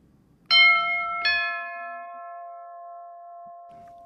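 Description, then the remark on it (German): A doorbell at a house on a street chimes two clear notes in quick succession, a ding-dong whose tones ring on and slowly fade over a quiet, faintly rustling background. “In einem Zusammenschnitt, den wir jetzt gerade hören, machen wir einen kurzen Rundgang auf dieser Strasse und gehen bei anderen Leuten läuten und hineinschauen.”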